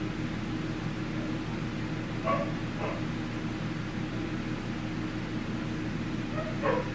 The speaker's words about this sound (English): Dogs are getting bold. Getting damn well bold.